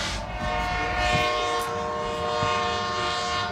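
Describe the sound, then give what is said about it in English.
A train horn blares in one long, steady, loud blast over the rumble and rattle of a passing train, holding for the entire stretch with no voices. “You mind if we just wait until the train goes by?”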